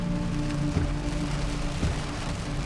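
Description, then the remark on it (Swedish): Heavy rain drums steadily on a car roof in Los Alcázares, Spain, a dense, continuous patter with a low hum underneath and a couple of slightly louder thumps. No one speaks. “Man kan höra hur det smattrar här mot biltaket.”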